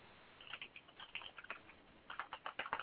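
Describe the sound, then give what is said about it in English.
Someone types a message on a computer keyboard, with quick, irregular clicking keystrokes. The pace slackens briefly midway, then picks up into a faster burst. No one speaks. “Don't you go typing that to her.”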